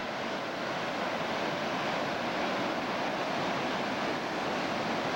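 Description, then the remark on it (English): Steady rushing water of the Castanet Cascade fills the whole clip, a broad continuous roar much like surf breaking on a shore, loud with no voices. “Don't miss the Castanet Cascade, because if you close your eyes in front of her, you'll be able to listen to the sound of the sea.”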